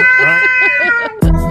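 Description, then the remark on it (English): A cat lets out a loud, wavering yowl with a rising and falling pulse as a man's hand comes closer to it. It is cut off by a sudden burst of noise near the end. “Because as his hand comes closer, right, this sort of alarm goes off.”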